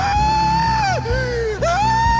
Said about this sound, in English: the lamentation rose out of him loud and sustained as the conch. Bush screamed.